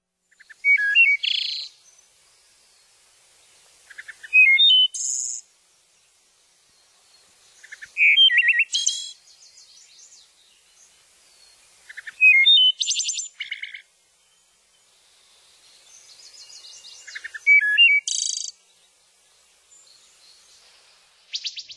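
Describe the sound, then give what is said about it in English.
Thrush songs: a hermit thrush followed by a wood thrush, each giving clear, flutelike phrases with ringing trills, repeated every few seconds with short pauses between them. The birds sing alone, without talk. “So that was first a hermit thrush and then a wood thrush.”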